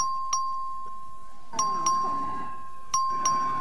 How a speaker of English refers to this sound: Members, the question occurs on final passage, HB 2571. This is a record vote. Clerk will please ring the bell. Keep your hands up.